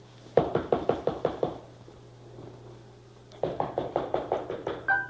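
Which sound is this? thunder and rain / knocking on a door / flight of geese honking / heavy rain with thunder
knocking on a door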